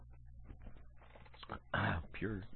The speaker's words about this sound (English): With a cough, a frog. I caught a frog. Hold on.